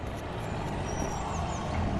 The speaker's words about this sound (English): Mrs. Marvin, look out! That truck!